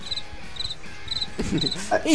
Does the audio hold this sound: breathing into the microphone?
no